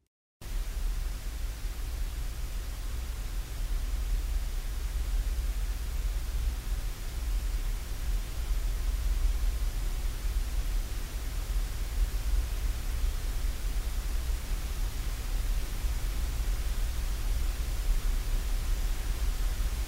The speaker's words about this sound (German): In seiner Arbeit Speculum Speculi verstärkt er allerdings die Leere, indem er sämtliche Produktionsstudios von Deutschlandradio Kultur in eine Rückkopplungsschleife zusammenschaltet. Die leeren Räume schwingen sich so auf eine gemeinsame Tonhöhe ein.